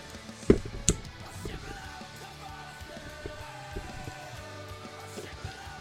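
A can of Stone La Citriel Celeste de Citrusado is cracked open at a microphone with two quick sharp cracks, followed by a soft, steady fizzing hiss that lingers for several seconds.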